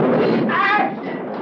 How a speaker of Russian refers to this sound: Ничего страшного, господа. Это была молния. Она ударила в трансформатор.